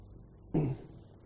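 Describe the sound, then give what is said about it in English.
A single short, forceful cough lasting a fraction of a second against a quiet background, with no talking. “if I get into a coughing fit, he's to mute me.”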